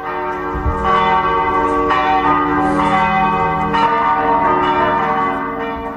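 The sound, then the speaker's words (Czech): Church bells ring loudly and continuously, overlapping peals sustaining a dense, resonant wash of tones with repeated strikes throughout, as Serbian Army guardsmen carry out the coffins of King Peter II and members of the last Yugoslav royal family. No voices present. “Uz zvuke crkvenih zvona, gardisti vojske Srbije izneli su kovčege kralja Petra II., njegove majke, supruge i brata.”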